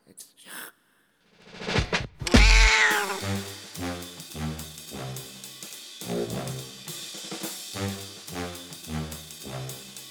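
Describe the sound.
A single loud, drawn-out cat meow rises near the start, after which a steady rhythmic musical backing with voices carries on to the end.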